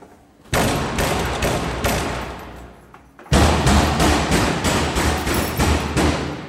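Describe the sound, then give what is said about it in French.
An inmate in a prison pounds hard against his cell door in two loud bursts of rapid, heavy, booming blows, with a brief pause between them; the second burst is even more forceful. No voices are heard. “Là, il y en a un qui cogne contre sa porte.”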